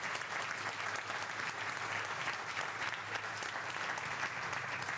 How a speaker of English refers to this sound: We are coming to you, well, not live, but we are currently in a live environment in Sydney with a lovely audience. Everyone, give yourselves a round of applause.